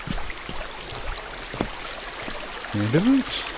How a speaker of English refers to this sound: Looking up, I'm just standing looking up it now, and there's all this brackish water tumbling down, and you can see where it's actually tumbling down